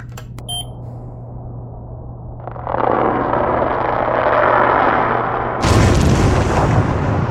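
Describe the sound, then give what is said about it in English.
High-pitched underwater bubbling: after a low steady hum and a few brief beeps, a dense fizzing rush of bubbles starts, then surges louder and brighter for the final seconds. No voices. “What's most interesting about this is that high-pitched bubbling sound.”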